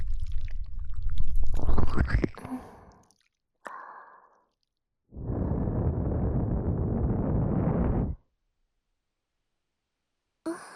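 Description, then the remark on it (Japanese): Wet squelching of an ear being cleaned to remove seawater, coming in several bursts: a rumbling rustle at first, a short squish, then a long steady stretch of dense squishing. No one talks. “これで耳の中の海水は取れたはずね。”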